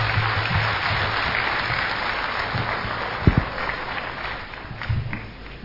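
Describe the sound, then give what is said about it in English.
A crowd applauds a singer steadily after a song, a dense wash of clapping at fairly high level that holds for several seconds before tapering slightly at the end, with a few louder claps standing out. “Can we have another huge round of applause?”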